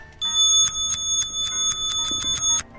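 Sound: clock ticking sound effect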